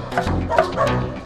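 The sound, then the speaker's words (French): A big dog, whipped hard at a fountain, yelps in pain, a brief run of high, strained cries and whimpers, fairly loud, with no one talking. “Le chien hurla à la mort.”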